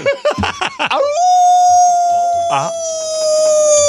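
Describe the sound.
A person voices a long, steady werewolf-style howl, held for nearly three seconds after a few short vocal yelps. Another voice briefly cuts in partway through the howl.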